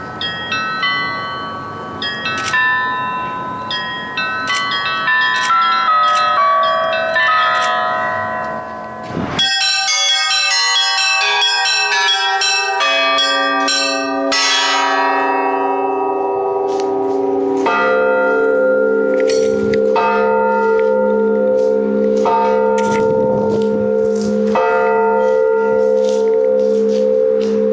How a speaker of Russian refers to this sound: Принцип творчества такой. Сначала записываем звук каждого колокола, затем заносим в программу и бьем по клавишам, как по колоколам.